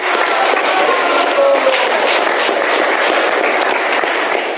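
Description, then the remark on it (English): An audience applauds a man who did well, a dense, even wash of many hands clapping that stays loud and unbroken for several seconds, with a few faint voices mixed underneath. “Let's give him a clap.”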